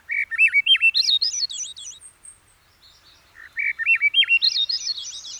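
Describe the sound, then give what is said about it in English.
Two phrases of a Swainson's thrush song, each a flute-like spiral of notes rising upward in pitch, clear, separated by a brief pause. “Still others name the singing of the Swainson's thrush.”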